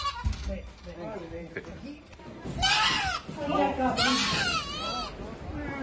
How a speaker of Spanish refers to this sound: Sí, sí, el de esta cabra que escuchas, pequeña y de color negro, que ha sido rescatada por los bomberos de la Comunidad de Madrid del Alféizar de una ventana de un quinto piso vacío de un edificio situado en el distrito de Villaverde.